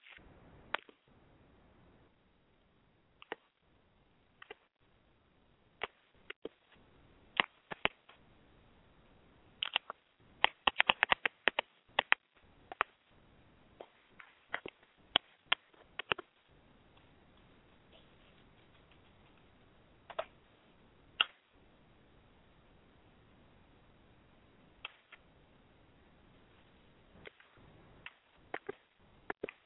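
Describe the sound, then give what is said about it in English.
Phone keypad buttons being pressed to dial a phone number, a long irregular series of short, sharp beeps and clicks, bunched densely in the middle and sparser toward the end, with no talking. “Okay, hopefully that wasn't too much button beeping.”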